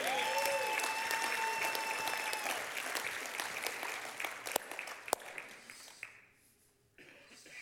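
An audience breaks into sustained applause, a dense wash of clapping that carries on steadily for several seconds before thinning out and briefly dropping away near the end.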